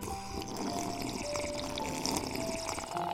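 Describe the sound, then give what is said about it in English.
A steady, continuous liquid sound of a McDonald's McCafe iced coffee being sipped, with bubbly gurgling, a faint high whistling tone and occasional ice-like clicks, holding an even loudness throughout with no talking. “So pick up your McCafe iced coffees, close your eyes, and deep sip in.”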